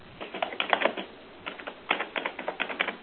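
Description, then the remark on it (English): Someone types on a computer keyboard in quick bursts of clicking keystrokes with short pauses between. The typing comes through a thin, call-like line from an online meeting participant whose microphone is not muted. No one is speaking. “And for others, I hear somebody typing.”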